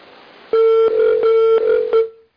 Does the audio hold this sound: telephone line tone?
yes